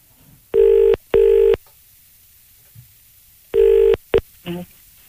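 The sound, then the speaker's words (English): A telephone rings loudly in the classic double-burst pattern as Today FM radio calls a listener: two quick rings, a pause, then another pair cut short, followed by a brief clatter as it is answered. “It's ringing.”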